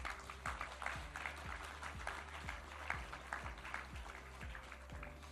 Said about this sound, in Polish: Jesteście naprawdę wspaniali. Dzięki wam z roku na rok coraz więcej młodzieży angażuje się w projekt z ZUS, w lekcje z ZUS, a w konsekwencji decyduje się na udział w olimpiadzie. Brawa dla państwa.